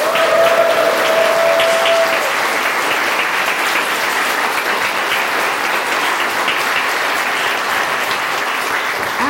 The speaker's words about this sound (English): Big round of applause for Violet Berlin!